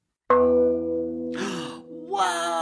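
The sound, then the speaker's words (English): A real bell is struck once, loud, its bright metallic tone ringing on and slowly fading while voices break in over the lingering resonance. “That's not a sound effect. What I mean, it is, that? But it's a... That is a real bell.”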